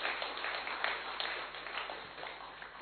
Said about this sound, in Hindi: ताली बजाओ भाई एक बार अच्छी तरह से।